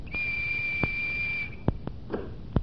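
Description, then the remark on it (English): A single steady, high-pitched whistle blast lasting about a second and a half, clear, used as a door key at a cottage, followed by a few sharp mechanical clicks and clunks as an electric mechanism that responds to the whistle opens the door. “Yes, opened by an electric mechanism that responds to the sound of the whistle.”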